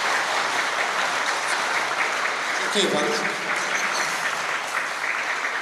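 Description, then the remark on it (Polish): Steady, loud applause from an audience thanking an invited editor, a dense crackle of many clapping hands that continues throughout, with a voice briefly speaking over it partway through. “Bardzo dziękujemy, gorące brawa, dziękujemy.”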